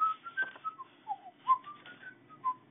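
A little old lady whistles a short, lilting tune on her way to bed after closing the door, a string of clear notes sliding up and down in pitch, fairly soft with no talking.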